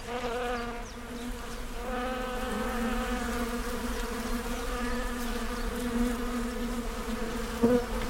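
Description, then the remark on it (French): A dense, steady hum of many honeybees buzzing around hives, a continuous droning swarm with no speech, holding an even level throughout with a brief louder pass near the end. “On va aller voir les autres ruches.”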